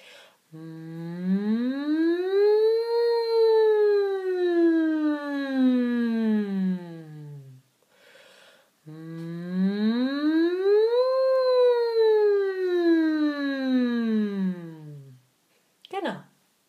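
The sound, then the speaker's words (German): A single voice hums a closed-mouth "mmm" that glides up in pitch from low to high and slowly back down, imitating a siren, done twice in a row with a short breath between, steady. “Das M hatten wir schon, aber auch das nehmen wir jetzt einmal als Sirene, diesmal andersherum, von unten nach oben und wieder zurück.”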